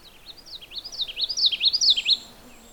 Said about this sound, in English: That's a common yellowthroat. It's a kind of a warbler. The song is sort of like witchety, witchety, witchety, witchety. It's actually an easy warbler song to learn.